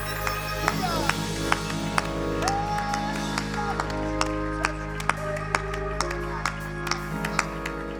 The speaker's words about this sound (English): Come on, one more time. Why don't you clap your hands? Una vez más, vamos a aplaudir las manos.